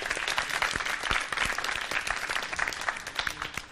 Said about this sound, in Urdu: Team اے سے درخواست کروں گی یہاں تشریف لائیں، ان کے استقبال کے لیے تالیاں ہونی چاہیے.